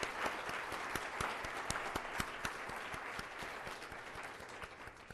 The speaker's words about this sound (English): So thanks. Let's have a big round of applause for those people.